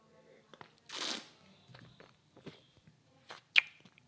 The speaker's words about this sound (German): Yo, ich hoffe, das Schmatzen stört euch nicht.